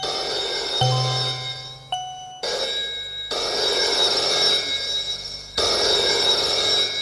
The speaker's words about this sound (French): Le téléphone sonne.